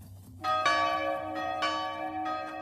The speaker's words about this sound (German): Die Glocken der Zionskirche läuten Sturm an diesem Sommernachmittag des Jahres 1900.